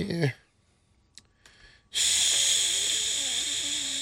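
A brief vocal sound opens, followed by a couple of faint clicks, then a loud, steady sizzling hiss, like food frying in a hot pan, runs for the last two seconds.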